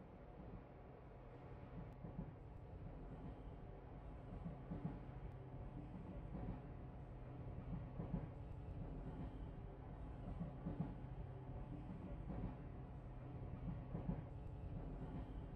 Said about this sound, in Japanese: 電車来ちゃったね。本当に乗るんだ、この状態で。乗らないと電車行っちゃうもんね。